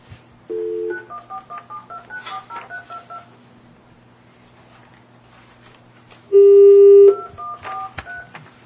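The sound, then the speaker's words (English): A Taney County Board of Equalization staff member dials a cell phone: telephone keypad tones beep in a quick run of about ten presses, then after a pause a longer beep leads into another short burst of dialing. The tones are clear, with no talking. “I'm going to go ahead and try your cell phone.”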